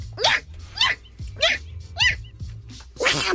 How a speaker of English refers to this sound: I don't even know what that is. That's a Pomeranian sneezing.